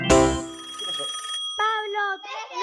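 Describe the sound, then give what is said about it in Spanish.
A loud telephone ring sounds, its bright metallic tone lingering for about a second. After a short pause, higher warbling electronic tones follow. “Teléfono.”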